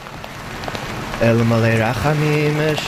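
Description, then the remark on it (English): Steady freezing rain patters down outdoors at Ottawa's National Holocaust Monument, where candles are lit, a dense hiss of drops on hard surfaces; partway through, a sustained voice rises over the rainfall, holding long tones. “Candles are lit under freezing rain outside of Ottawa's National Holocaust Monument, marking tomorrow's day to commemorate victims of the Nazi genocide.”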